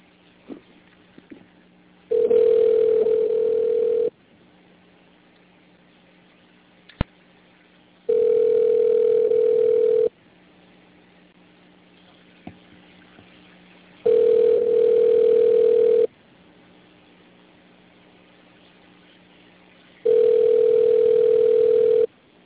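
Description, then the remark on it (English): A phone ringback tone during an outgoing group call rings four times, each steady buzzing burst lasting about two seconds with roughly four-second gaps of quiet between, clear and fairly loud with no one speaking. “Clicking on it. There it is. Ringing.”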